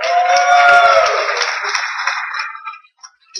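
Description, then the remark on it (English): Audience applause for a presenter who flew in from Redmond to give a session on HTML5 and games: a dense, steady wash of many hands clapping, loud at first with a few high whoops mixed in, then thinning and fading out after about three seconds. “And let's give him a round of applause for flying in from Redmond over here.”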